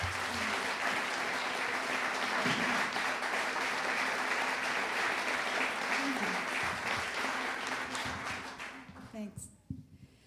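A crowd claps steadily in a dense, sustained wash of applause that fills the room, then tapers off and fades out near the end.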